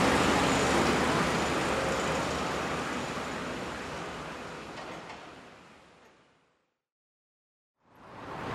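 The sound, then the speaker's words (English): Loud, steady roar of highway traffic that gradually fades away, drops to near silence for about a second, then swells back up again. No one speaks. “Oh, now there's construction on the other side of the highway.”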